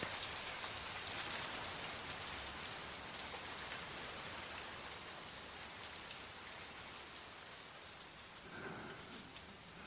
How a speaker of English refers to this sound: This is the rain.